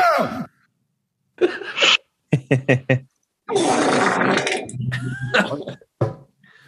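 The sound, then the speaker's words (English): A voice imitates a mummy's groan with a string of close, raspy moans and grunts: a few short choppy bursts, then a longer, rough, strained growl that trails off. “No, the mummy sound is the sound you make to Jack Joyce when he runs over your fucking Volvo.”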